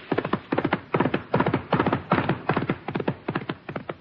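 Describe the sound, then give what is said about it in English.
A horse's hooves beat in a steady galloping rhythm as it approaches, carrying a lone rider heading towards Messina: quick clusters of sharp, hard thuds repeating about twice a second, fairly loud and with no voices over them. “Wait, listen. That horse is coming.”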